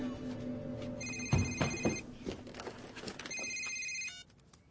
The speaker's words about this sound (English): It's ringing.